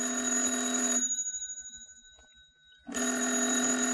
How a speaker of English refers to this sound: The phone. It's ringing.